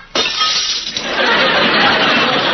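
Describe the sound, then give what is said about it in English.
Glass shatters with a sudden loud crash, then a sustained wash of bright tinkling and crunching fragments that keeps going for a couple of seconds, with no voices. “Well, I can usually break a glass by singing.”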